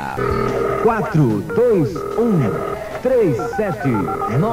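A telephone rings in repeated steady tone bursts. Warbling, gliding vocal sounds play loudly over the rings and partly mask them.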